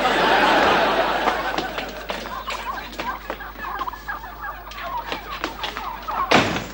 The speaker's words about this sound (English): Attention, last-minute shoppers. Get your fresh turkeys. Get them while they're breathing. Get them while they're gobbling.